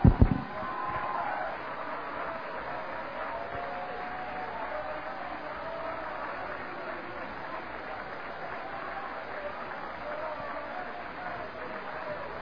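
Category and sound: crowd, audience clapping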